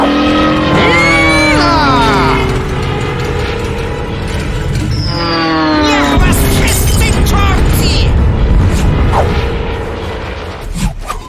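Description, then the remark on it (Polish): A military staff car drives by, its engine revving loudly in repeated rising sweeps as it shifts gears, with steady mechanical rattling and clatter underneath. “To chyba samochód sztabowy.”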